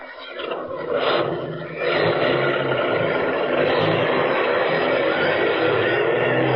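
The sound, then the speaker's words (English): The engine of the last bus, loaded with passengers, roars loudly and steadily as the bus pulls away, a dense low rumble with broad noise that holds at the same level throughout, with no voices. “You get on that bus, too. It's the last one.”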